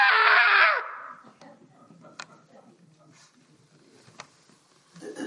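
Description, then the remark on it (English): A person lets out a loud, sustained imitation of a scream, as if at the top of a roller coaster looking way down, lasting under a second, then it breaks off into near quiet with only faint, scattered background noise. “I mean, you, and you're way up there, and you're just barely creeping anywhere, you know, and then you get to the top, and you look way down, and then you scream, ah!”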